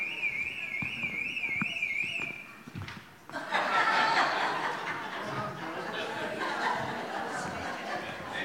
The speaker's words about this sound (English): It's a very nice Porsche that the alarm's going off on, so I suspect somebody will be there in a minute.